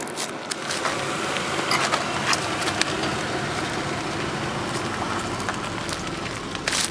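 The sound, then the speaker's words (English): A car rolls slowly over a beetle on the ground, testing whether the beetle survives being run over. A steady rumble of engine and tires with a few brief crackles and clicks along the way. No one speaks. “Beetle versus car, take two.”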